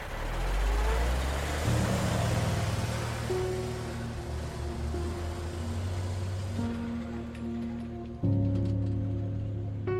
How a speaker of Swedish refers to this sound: Vi förklarar läget för dem innan vi packar ihop oss i bilarna och åker tillbaks till brandstationen.